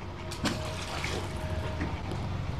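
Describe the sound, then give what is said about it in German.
A capped glass bottle holding a message is thrown into water with a short, soft splash near the start, followed by steady lapping and trickling water outdoors. “Und jetzt werfe ich sie mir ans Wasser.”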